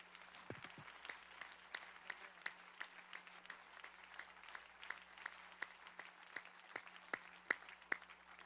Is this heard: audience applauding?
yes